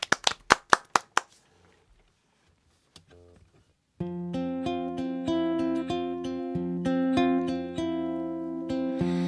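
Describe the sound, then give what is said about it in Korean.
A brief burst of audience clapping, about eight sharp claps in quick rhythm, welcoming a live acoustic performance, fades to near silence before acoustic music with steady strummed chords begins. “박수로 청해드릴게요.”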